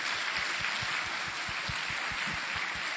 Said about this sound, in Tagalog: Isa kong malakas sa palakpak sa ating Panginoon.